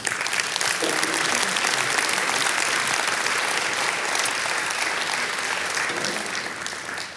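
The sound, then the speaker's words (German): A crowd applauds steadily as gospel worship musician is invited onto the stage, a dense wash of many hands clapping at a constant loud level for several seconds, with faint voices and cheers mixed in. “Ich möchte … auf die Bühne bitten und ja, lass uns ihm einen Applaus geben.”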